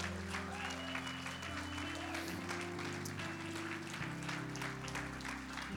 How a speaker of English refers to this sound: Come on, clap your hands.